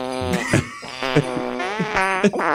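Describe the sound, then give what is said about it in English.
A string of real recorded farts played back and pitched into a melody: buzzy and tonal, one after another in a quick musical rhythm, loud with no talking over them. “These are all actual farts.”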